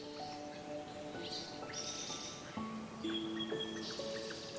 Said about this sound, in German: Du hörst das sanfte Rascheln des Laubs und das Zwitschern der Vögel.